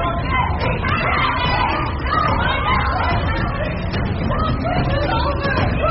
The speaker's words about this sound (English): Yo, I hear a lot of yelling. I think it's getting crazy in there.